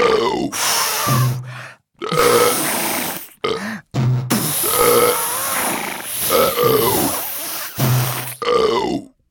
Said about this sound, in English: And blew and burped. And burped and blew.